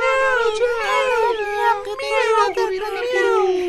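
A high, drawn-out voice imitates a cat's meow as the cat in an Arabic story says goodbye and thanks, wavering and sliding in pitch for several seconds, loud with no pauses.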